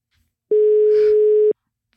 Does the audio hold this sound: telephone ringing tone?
yes